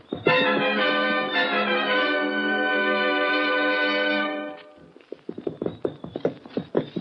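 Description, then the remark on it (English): A long, steady tonal sound fades out, and then horse hooves clip-clop in a quick, uneven rhythm at moderate volume as riders head at night around to the back entrance of a blacksmith shop, as though moving along at a walk or trot. “Let's ride around the back entrance, see if we can get him up.”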